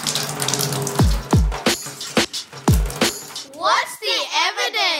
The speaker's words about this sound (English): She will spend 12 hours bent over a wooden washtub. Her hands are in cold water, freezing cold.